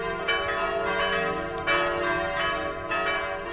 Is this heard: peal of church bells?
yes